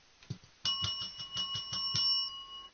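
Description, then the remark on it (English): A tiny handbell rings in a quick shaking flurry to wake someone in the morning, bright sustained tones shimmering over a rapid metallic rattle, fairly loud after a brief soft knock at the start. “And then they ring a little, tiny little bell. It goes like this.”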